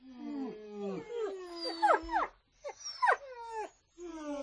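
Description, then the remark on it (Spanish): Several dogs whimper and howl together in overlapping, wavering cries, rising and falling in pitch with short pauses between bursts, moderately loud, no talking, as part of a dog concert piece of music. “y para los oídos más exigentes, trasnochadores, vamos a asistir al primer concierto de perros.”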